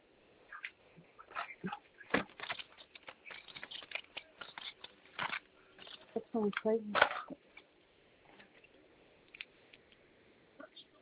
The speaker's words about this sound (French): Ah, super, comme ça je vais le faire direct. Alors, je vais juste prendre un stylo.